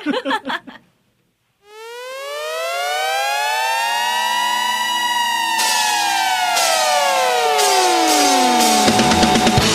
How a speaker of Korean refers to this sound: 사이렌 소리로 시작하겠죠?